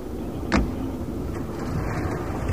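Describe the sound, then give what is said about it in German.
Steady low engine rumble of a father's car driving, continuous, with a brief sharp thump early on and no voices. “Prima, wir fahren mit Papas Wagen.”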